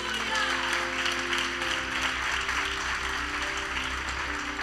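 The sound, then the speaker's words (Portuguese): An audience applauds the Lord during a sermon, a dense wash of clapping hands that holds at an even level throughout, with a low sustained hum underneath and faint voices mixed in. “Aleluia, pode aplaudir o Senhor?”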